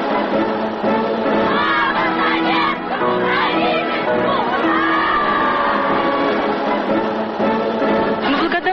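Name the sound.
crowd applause and cheering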